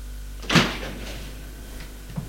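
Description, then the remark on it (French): A stiff old door, unopened for a long time, at the end of an alley and leading to a courtyard, is forced open with a single sharp scraping thud, followed by a brief low creak and a faint knock near the end, over a steady low hum. “Il l'ouvre difficilement parce que la porte n'a pas été ouverte depuis longtemps.”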